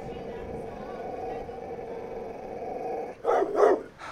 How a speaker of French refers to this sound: Un chien. En fait, je crève de peur parce qu'il y a un chien de berger et depuis le début, on nous dit qu'ils sont assez agressifs. Et donc, vous vivez en direct le moment que j'ai redouté toute la journée. Il vient vers nous.